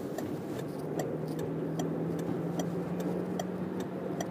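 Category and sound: vehicle, truck passing by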